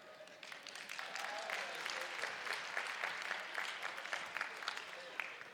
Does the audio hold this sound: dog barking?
no